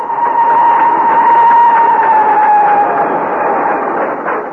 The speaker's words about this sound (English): The train roared on into the night.